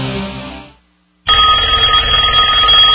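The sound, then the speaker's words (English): A telephone rings loudly, a steady electronic ring starting after a short pause of silence and continuing to the end, with no one speaking. “Does this sound bring on a sudden onset of fear? A fear of not knowing who's on the other end?”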